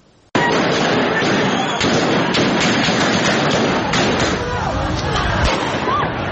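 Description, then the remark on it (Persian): Scattered sharp bangs of security forces firing directly at people crack out over a loud, continuous crowd din of voices and street noise during the November 2019 (Aban 1398) protests in Iran, the shots irregular. “بخشی از ویدیوهایی که شلیک مستقیم نیروهای امنیتی به مردم را در اعتراضهای آبان ماه 98 نشان میدهد”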